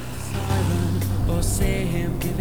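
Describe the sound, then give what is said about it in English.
A car engine catches and settles into a low, steady rumble, then its pitch shifts as the vehicle pulls away, with no voices. “starts up the car and they pull away.”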